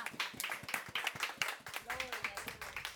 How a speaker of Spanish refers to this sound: Amén y amén. Démosle un aplauso al que vive.